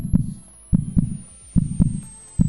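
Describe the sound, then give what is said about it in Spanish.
A deep, muffled heartbeat simulating the pulsing in the head during a migraine pulses steadily in paired thumps, lub-dub, repeating about every 0.8 seconds with a throbbing, pounding low-end weight and no voices. “Ese latido permanente en la cabeza te va bombeando y sigue, pasan los minutos, pasan las horas y sigue y cada vez es más intenso.”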